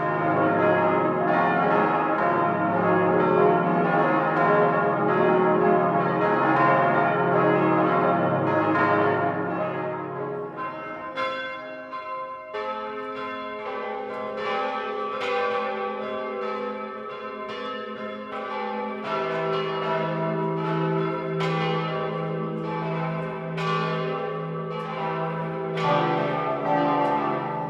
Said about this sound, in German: In den vergangenen Monaten wurden unter großem Aufwand die Läuteanlage saniert, der gotische Glockenstuhl verstärkt und die Turmstatik verbessert, um wieder alle Glocken gemeinsam und in voller Pracht läuten lassen zu können.